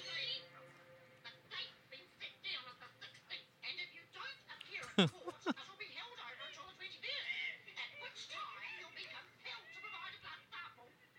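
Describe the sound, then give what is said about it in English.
An agitated hen squawks and clucks almost continuously in choppy bursts, with one especially loud, sharp shriek around the middle. “Oh, here she comes. World's most pissed off chicken.”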